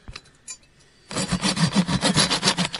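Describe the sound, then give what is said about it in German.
A hand saw rasps through a wooden beam in quick, steady back-and-forth strokes, loud, after a second of quiet with a couple of faint knocks, cutting the beam through. “Wir haben jetzt den Balken gespalten.”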